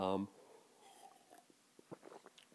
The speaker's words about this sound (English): Excuse me, had to take a sip of water there, getting a little dry.